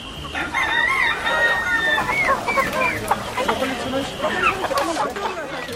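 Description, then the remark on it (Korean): At a lively rural market day in Bongpyeong, South Korea, a rooster crows repeatedly amid a crowd of shrill, cheeping chicks, with the dense, busy chorus filling the scene and faint voices mixed into the background. “삐약거리는 병아리들 사이로 꽃기호를 연발하는 닭.”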